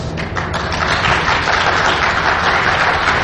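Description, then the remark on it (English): An audience applauds at the end of a talk on the Asorix paper, in a dense, steady wash of many hands clapping, loud and even throughout with no voices standing out. “And right now I'll take comments. Questions. Applause.”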